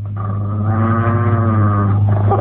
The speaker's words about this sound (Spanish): Escucha amenazantes gruñidos. Sabe que es acosada por un monstruo asesino.